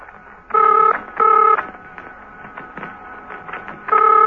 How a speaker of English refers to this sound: While they were in the process of passing each other, Steed's telephone was ringing. Colonel James, making the call from Old Hill Monastery, sighed impatiently.